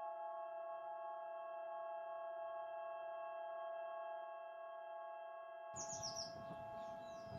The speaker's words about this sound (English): We can hear the birds. Yes. We are on the way to entering the garden.